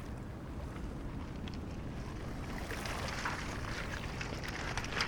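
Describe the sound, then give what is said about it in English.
Waves lap steadily against the shingle shore of the River Thames, with a continuous washing rush and brief crackling hiss of water through pebbles, plus low wind rumble in the background. “Right down here, on the edge of the Thames, in amongst all the shingle where so many pieces of detritus land at every tide.”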